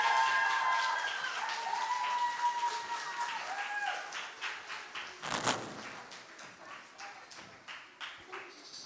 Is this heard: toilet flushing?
no